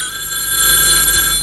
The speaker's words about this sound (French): Le téléphone sonne.